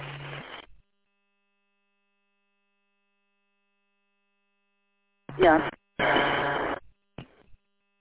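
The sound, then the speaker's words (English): Harsh bursts of radio static from a transmission reaching a radio repeater with no voice heard: one short burst, then a long silent gap, then several choppy bursts in quick succession with a faint steady hum beneath. “Didn't hear nothing but static.”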